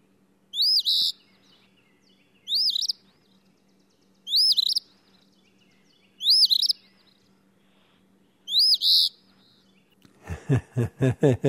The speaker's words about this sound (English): You mentioned the eastern phoebe, and I think Christina Myshock, our engineer, has maybe the song of the eastern phoebe.